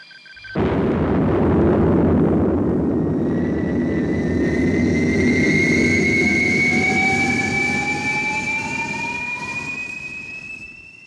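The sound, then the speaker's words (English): A spaceship takes off after a countdown: a sudden thunderous roar bursts in and holds steady, a deep rumbling blast with rising whistling tones climbing above it, slowly easing near the end. No voices. “Yes, that's a spaceship taking off.”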